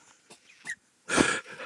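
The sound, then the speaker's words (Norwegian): A lighter is flicked: a couple of faint scratchy clicks, then a brief, louder burst of breathy hiss that fades quickly. No one speaks. “Det en lighter.”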